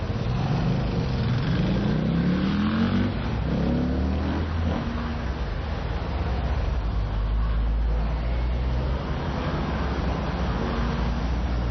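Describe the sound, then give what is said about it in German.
Cars drive past on a busy street, crossing in front of and behind the listener, engines rising and falling, with steady traffic rumble throughout and a faint voice in the background. “Die Autos fahren hinter uns und vor uns quer.”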